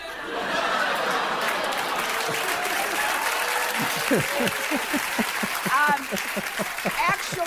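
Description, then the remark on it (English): A studio audience breaks into steady applause, dense and fairly loud, with scattered laughter and voices rising through the clapping toward the end. “And so the audience claps and we laugh at it too.”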